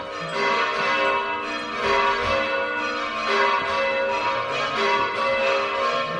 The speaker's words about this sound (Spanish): Sonando las campanas de la iglesia de Benimantel, ¿a quién está dedicada la iglesia? Están en fiestas en el pueblo.